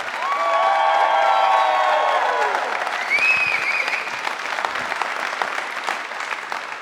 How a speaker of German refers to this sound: Und das war gut abgehangen live! Weil mit nach so einem Applaus besser wird's nicht mehr.